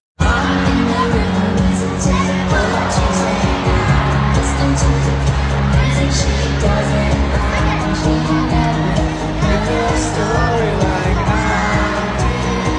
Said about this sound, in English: It's an enthusiastic crowd of girls singing at a recent professional women's hockey league game.